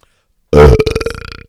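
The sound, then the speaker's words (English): A single loud belch erupts after a brief silence, a deep guttural burst that rattles and sputters for nearly a second before trailing off. “And so Rag Stone gets the belch this week.”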